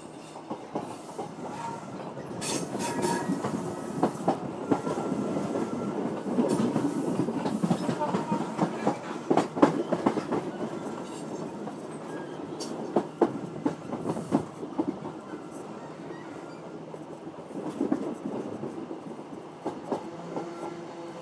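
A train rolls steadily along the rails, its wheels producing a continuous rumble with repeated clickety-clack beats and sharp metallic clicks over about twenty seconds, fairly loud throughout.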